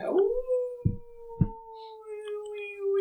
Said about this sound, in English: As you begin heading down the swamps, the marshy bog towards Beraz, you hear howls.